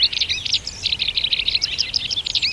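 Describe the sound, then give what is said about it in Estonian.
A white wagtail sings a rapid, twittering song of high chirps and trills, continuous for a couple of seconds, clear with no other sounds around it. “Ka tema astus lavale ja esitas oma lile sarnase juppi.”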